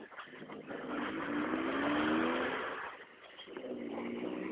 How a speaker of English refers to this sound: Neighbor in a smart car. They're cute little buggies.